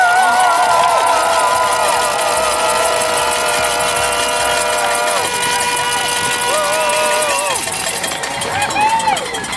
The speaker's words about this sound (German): Ich brauche einfach dieses Gefühl, hier zu sein, all diese Leute zu sehen, wenn ihr uns zujubelt, wenn wir mit den Treckern vorbeifahren.